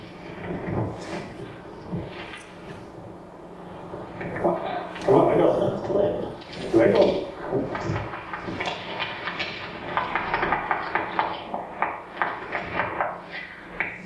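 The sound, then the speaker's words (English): An owl pops its beak in a run of sharp, hollow clicks, some single and some in quick bursts, louder toward the end, with voices murmuring underneath. “The popping sound you hear is the beak.”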